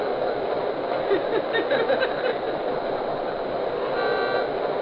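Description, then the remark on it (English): A train horn toots as passenger train number 53, the City of Miami, departs from track one to Miami, amid the steady rumble and clatter of a busy rail platform, with indistinct voices murmuring in the background. “Now departing on track one to Miami, train number 53, the city of Miami.”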